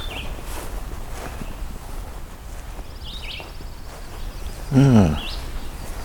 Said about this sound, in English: A distant red squirrel.